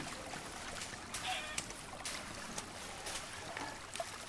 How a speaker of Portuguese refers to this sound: E aquele som de água corrente, que antes aparecia só às vezes trazendo boas notícias, virou parte constante da paisagem sonora.